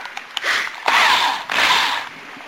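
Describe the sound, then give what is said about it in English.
A power drill with a dull bit that wanders grinds against metal in three sustained bursts, a harsh, high-pitched scraping whine with faint squealing, preceded by a few light clicks. No voices. “And the bit wants to wander, and that is duller than dog shit, so I'm going to have to use the other one.”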